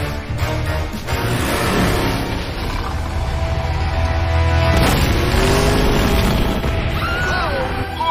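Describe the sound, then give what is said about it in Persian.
Race car engines rumble and roar steadily throughout on a race track, with a loud, crashing explosion bursting out on the track about halfway through before the engine noise carries on, whining and revving toward the end. “خدای من، یه انفجار داخل پیست روی داده.”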